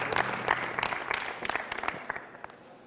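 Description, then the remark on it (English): Applause from a small audience for a contestant who correctly answered a New England Patriots trivia question, a dense patter of many hands clapping at a steady moderate level, with a few sharper claps standing out before it thins and fades near the end. “Clap it up again.”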